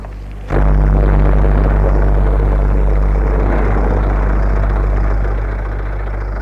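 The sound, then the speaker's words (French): The engine of an early-1900s-style car built of wood, leather and copper catches with a sudden burst after a brief low hum, then settles into a loud, steady, rumbling run with a deep throbbing drone that eases slightly toward the end. “La voiture démarra assez facilement et nous sommes partis. Le moteur faisait un bruit étrange.”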